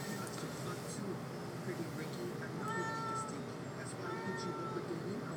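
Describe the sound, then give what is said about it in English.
A cat meows repeatedly in the background, several drawn-out, fairly faint cries spread across a few seconds, over a steady low room hum with some indistinct voice activity. “I have a cat in the background.”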